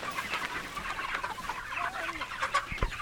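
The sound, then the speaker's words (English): A flock of chickens clucks and murmurs softly, with scattered short calls overlapping in a steady outdoor chatter, plus a faint rustle or thump near the end, as their coop is dragged about 10 feet onto fresh grass. “They place a dolly under one side and arrange a rope around their bodies from the other, dragging the coop the 10 or so feet to get the chickens on their fresh grass.”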